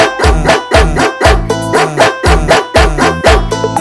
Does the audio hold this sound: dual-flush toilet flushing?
no